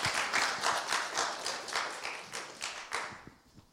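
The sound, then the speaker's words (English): A crowd applauds steadily, dense overlapping claps at moderate loudness, tapering off toward the end as a few scattered claps linger, as the audience welcomes the next person coming up to speak. “Yeah, you can clap.”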